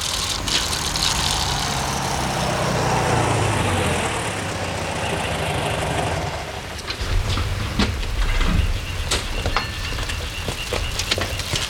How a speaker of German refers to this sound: Als der Wagen auf das Grundstück der Familie Andrews einbog, fuhren Justus und Peter so nah wie möglich an das Haus heran.